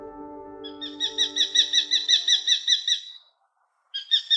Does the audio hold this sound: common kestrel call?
yes